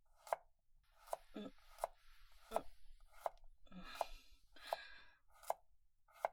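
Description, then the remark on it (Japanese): A kitchen knife chops food steadily on a cutting board while a meal is being cooked, about nine crisp, evenly spaced strikes, with faint rustling between them and no talking. “もう、包丁使ってるから危ないよ。”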